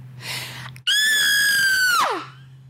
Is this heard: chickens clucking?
no